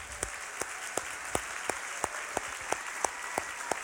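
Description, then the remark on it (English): An audience applauds graduates who have stood up, in a steady, dense wash of clapping, with about ten sharp, evenly spaced claps cutting through in a regular rhythm. No one speaks. “We just want to give you an applause, yeah?”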